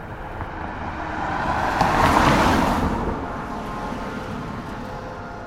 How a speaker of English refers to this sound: And so I wasn't surprised to find the streets of downtown Durham for the most part empty of people, and full of cars.